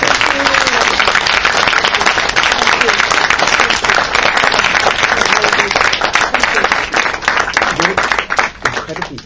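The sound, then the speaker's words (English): A room full of people applauds a filmmaker after she spoke about her films, steadily for about nine seconds, a dense, even roar of many hands clapping that thins slightly toward the end, with faint voices mixed in. “If I could ask you to give a round of applause, please.”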